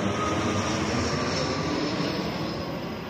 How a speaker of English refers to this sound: Gutierrez-Hedges recorded the jets flying over her daughter's school one day.